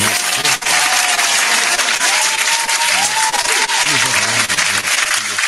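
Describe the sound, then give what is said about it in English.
A steady round of applause from a crowd on a Culture Freedom Radio Network broadcast, dense and loud with continuous clapping for several seconds, with faint voices murmuring underneath. “Round of applause.”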